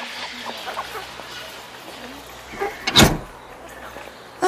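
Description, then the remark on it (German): A door leading out to the fresh air in London opens with a brief mechanical rattle followed by a single sharp clunk, moderately loud, over a low steady background hum. “So, nur noch ein paar Schritte. Du schaffst das sehr gut, ja. So, da ist schon die Türe.”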